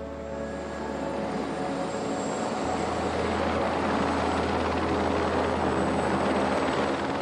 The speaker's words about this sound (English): Even in the most remote parts of the earth, there is the sound of machines. This is in the helicopter back in Greenland.